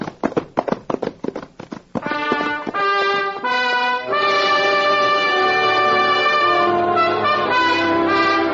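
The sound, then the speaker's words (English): Hooves of galloping horses, a pinto among them, clatter in a quick rhythm for about two seconds as riders set off for town, then fade; a loud sustained orchestral music swell takes over for the rest. “Well, then, prod that pinto, little beaver. Me prod him. Get him going, Papoose. Get him up. Get! Take after him, Thunder.”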